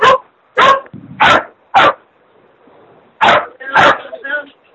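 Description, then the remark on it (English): A dog barks loudly, a quick run of four sharp barks, a pause, then two or three more with a whiny edge as it trails off. “The dog is registering its disdain at the.”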